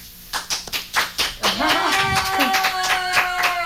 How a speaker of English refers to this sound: The rest of our studio audience. Friends. I should have applause. Turn up the knob.